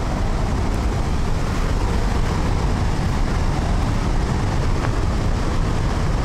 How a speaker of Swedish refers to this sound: Uppleva hur det är om man närmar sig forsen ännu mer. Då får vi gå upp här för en brantsluttning. Och man hör ju här vattenmassorna. Ni ser vi Handelsforsen också.